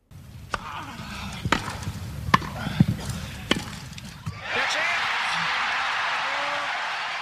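About six sharp, ringing racket-on-ball strikes sound over a low murmur, then a crowd erupts into loud, sustained cheering and applause that holds steady to the end, after the winning match point of the 1980 Wimbledon men's singles final, won by Sweden's Björn Borg against John McEnroe in five sets.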